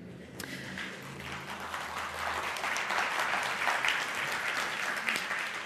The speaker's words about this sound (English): What I'm hoping is that as people clap, what they are saying is, that's true.